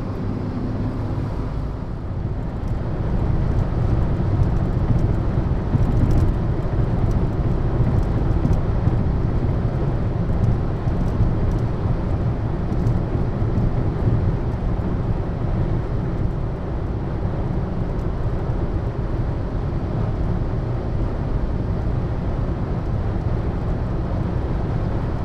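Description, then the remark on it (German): A steady, loud low rumble of a car driving fast, heard from a rear emergency seat inside the vehicle, with constant road and engine roar and no voices for the whole stretch. “Der Wagen fährt zwar schnell, aber die Sitze sind doch recht unbequem.”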